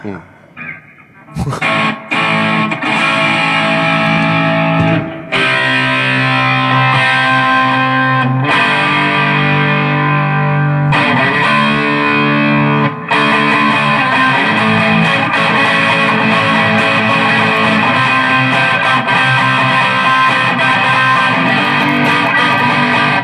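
A loud, heavily distorted electric guitar played through a button-controlled effects unit, its settings adjusted to match a previous Les Paul, plays sustained chords and riffs with a washy reverb tail, starting after a short pause and ringing continuously with a few brief breaks in the phrasing.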